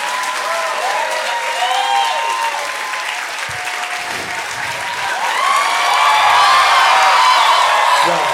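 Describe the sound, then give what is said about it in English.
An audience claps steadily for several seconds, a dense crackle of many hands with scattered whoops and cheers on top, swelling louder toward the end. “Could you like clap a little if you even liked it?”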